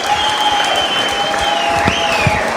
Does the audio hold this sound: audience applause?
yes